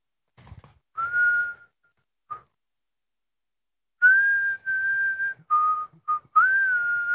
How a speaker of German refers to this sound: Ich pfeife ein Lied so lange.